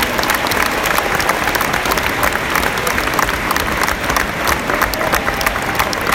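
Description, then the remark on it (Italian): Sustained applause from a large audience, a final round given in thanks for all they have done: a dense, steady wash of clapping that stays loud and even throughout, with faint crowd murmur mixed in and no clear speech. “E quindi un ultimo applauso per tutto quello che avete fatto, grazie.”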